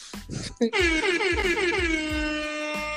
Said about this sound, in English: The air horn.